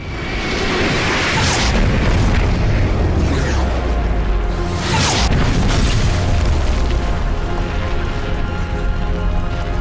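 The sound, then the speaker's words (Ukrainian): Heavy explosions boom and rumble over dramatic orchestral film score music by a Polish composer, with big blasts around the start and middle, everything loud and dense with no voices. “Відчувається, що його ноти, змішані з вибухами, також пропущені крізь серце.”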